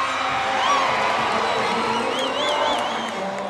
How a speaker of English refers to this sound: Last night, the president's red-clad followers crowded outside the presidential palace, shouting for their leader and singing the national anthem.